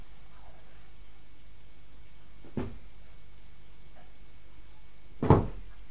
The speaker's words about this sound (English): What's that noise? It's you banging your feet.